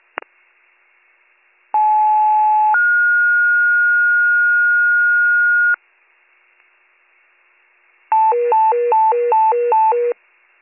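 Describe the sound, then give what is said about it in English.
Fire dispatch alert tones from Warren County dispatch, dropped in error for Station 75 Fire: a short mid-pitched tone steps up into a long, steady higher tone, then after a pause a loud warbling tone rapidly alternates between two pitches for two seconds. No voices. “Repeating, station 75 Fire, your tones were dropped in error, my apologies.”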